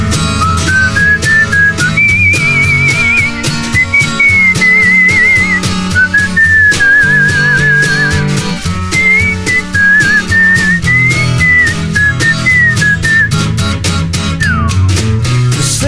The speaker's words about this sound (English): Whistle solo.